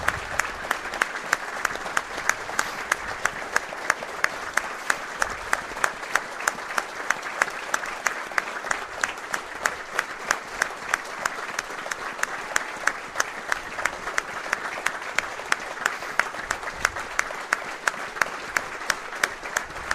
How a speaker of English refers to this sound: And a minute's applause for a member of the FC United team. Not the on-field team, I should say.